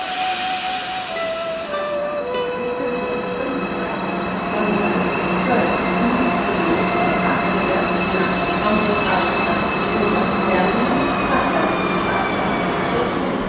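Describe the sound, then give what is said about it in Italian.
A train rolls steadily along the rails on the journey from Berlin to Leipzig, a loud continuous rumble with high metallic whines and squealing tones drifting over it throughout. “È breve il viaggio in treno da Berlino a Lipsia.”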